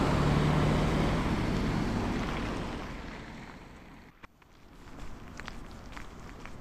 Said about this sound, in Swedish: Nu hoppar jag ut från bussen och så får jag gå ett stycke från bussen för att då ta mig till min arbetsplats på Gustav Vasas gata 8. Där körde bussen iväg.